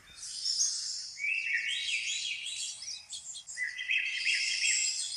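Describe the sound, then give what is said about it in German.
Continuous birdsong plays for several seconds from a mobile phone's loudspeakers, bright overlapping chirps and trills in a high register, steady and moderately loud with no talking: a phone alarm tone going off at 6:30 a.m., then snoozed to sound again in 8 minutes. “In genau 8 Minuten wird das Vogelzwitschern wieder losgehen.”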